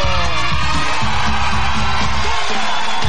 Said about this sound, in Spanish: ¡Aplauso!